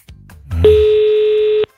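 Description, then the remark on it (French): A single telephone ringback tone, the second ring of an outgoing call, a steady mid-pitched beep lasting about a second, heard clearly over the line after some faint low rumble, then cutting off into silence. “Deuxième sonnerie.”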